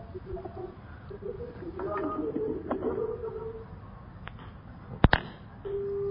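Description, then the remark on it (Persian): A hissy, muffled telephone line of a caller to a TV call-in show with faint garbled sounds, then two sharp clicks as the caller hangs up, followed by a steady electronic tone starting right at the end. “خب ظاهرا کلا قطع کردن متاسفانه.”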